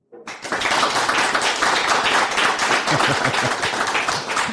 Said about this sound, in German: Jetzt, damit man in dem Podcast gehört, dass auch das Publikum da ist, fände ich toll, wenn ihr mal ganz kurz könnt klatschen und ich hebe euch dann das Mikrofon her.